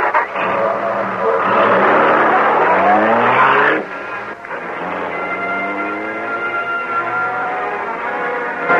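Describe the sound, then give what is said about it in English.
The engine of the Black Beauty car roars loudly at high speed, its pitch climbing as it accelerates, then dropping briefly before settling into a steady, sustained drone for several seconds. “We're moving so fast that policemen won't have a chance to know this is the Black Beauty.”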